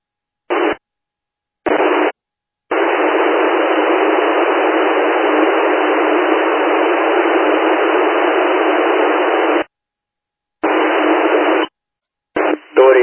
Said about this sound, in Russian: В плюсе получал вас на 4 балла с помехами, как вы меня, прием.